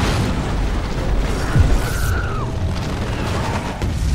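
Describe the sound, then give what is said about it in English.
A big explosion from a plane crashing into a house in a film roars loud, its deep rumbling blast holding steady for several seconds while a brief whining tone sweeps downward partway through. “I think one of the planes crashes into a house and there's a big explosion.”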